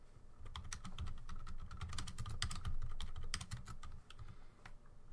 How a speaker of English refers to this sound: Sorry. Caught red-handed again typing in the chat.